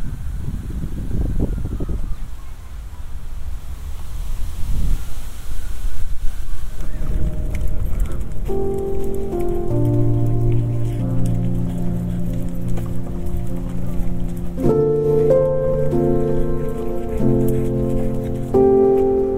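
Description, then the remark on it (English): A soft, steady rustle of wind moving through oak leaves fills the first few seconds, then gentle music with sustained tones rises and plays over it for the rest. “Anyway, the leaves are really lovely and kind of quite spiky, and they are turning a really lovely red colour, and you can just hear the wind in them right at the moment, and it's really nice. Really subtle sound.”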